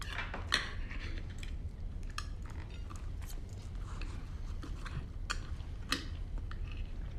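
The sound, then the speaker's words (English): A middle-aged man chews a dish with irregular crisp clicks and smacks, a few sharper snaps standing out, over a steady low background hum. No one speaks. “He raises his eyebrows and nods to himself as he chews the food.”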